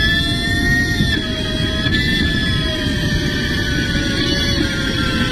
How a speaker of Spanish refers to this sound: Parece. Suena a rodamiento agarrado, ¿no?